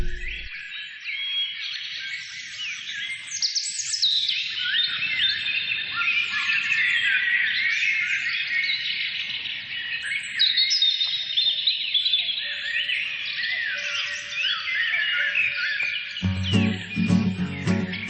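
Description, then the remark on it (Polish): A dense chorus of birds chirping and singing, many overlapping trills and whistles filling the air continuously and steadily, with a faint low rumble beneath and music starting at the end. “To w takim razie przez 15 sekund posłuchajmy ptaszków.”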